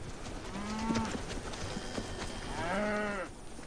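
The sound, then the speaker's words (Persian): Cattle that have strayed onto Native American land moo twice, two drawn-out, low bellows about a second long with a brief gap between them, over a steady background of outdoor noise and faint shuffling. “آره خب، گاوا خیلی فرق زمینای ما و شما رو تشخیص نمیدن.”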